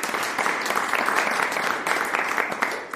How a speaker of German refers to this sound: Und Sie hören es auch schon am Applaus, wir haben auch Publikum eingeladen.